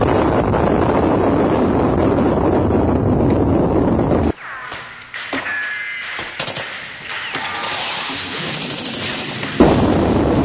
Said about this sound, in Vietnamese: Hơn một ngày mò mẫm trên tỉnh lỵ số 7, chúng tôi đến thị xã Hậu Bồn vào lúc trời sắp tối, thì vừa dừng lại chưa kịp ăn cơm đã bị pháo kích và súng nổ khắp nơi.